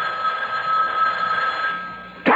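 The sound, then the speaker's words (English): A telephone by a bed rings in one steady, unbroken trill for about two seconds, fairly loud, then cuts off into a brief sharp clatter. “Now cut off the phone by the bed.”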